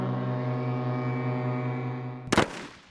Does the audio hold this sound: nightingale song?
no